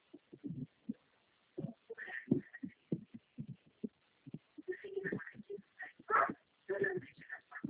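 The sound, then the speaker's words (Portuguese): A female dog barks outside in a rapid, irregular string of short yaps, muffled, with people talking. “Essa cachorra tá lá fora?”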